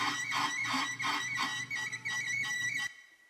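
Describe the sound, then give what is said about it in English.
A gemstone screeches against a spinning polishing wheel under the most intense pressure during the final polishing phase: a loud, continuous high-pitched squeal that wavers slightly in intensity for about three seconds, then cuts off abruptly, leaving a faint hum. “And interestingly, in that position, in the most intense pressure, the stone itself cries out, screeches out, okay?”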